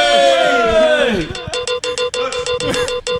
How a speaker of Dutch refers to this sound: Maar, cowbell trumps everything.